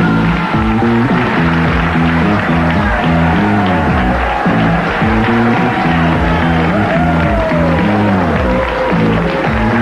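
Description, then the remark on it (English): A large crowd boos radio host Rush Limbaugh as he is introduced. The booing is loud and continuous, a dense wall of low, drawn-out voices with scattered shouts mixed in, lasting the whole stretch without a break. “There's some booze out there, Phil. Who's booing?”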